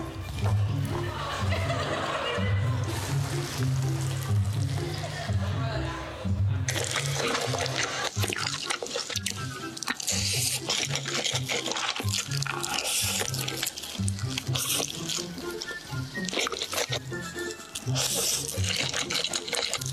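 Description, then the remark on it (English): Loud, wet slurping and smacking as people eat large amounts of ramen noodles in an online video played over loudspeakers, with repeated gulping bursts that grow denser and harsher partway through and keep going without a break. “I'll look up from my phone, and for 45 minutes, I've been watching people slurp up insane amounts of ramen noodles.”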